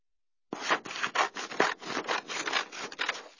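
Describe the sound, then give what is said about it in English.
Scissors cut through paper in a steady run of rapid, crisp snipping strokes, roughly eight or nine rasping cuts in under three seconds, with no voices. “Scissors.”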